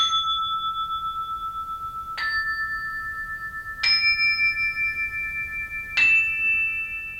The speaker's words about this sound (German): Lassen Sie uns das mal gerade hören, am Beispiel von 4 Glocken, wie denn diese Quinten klingen.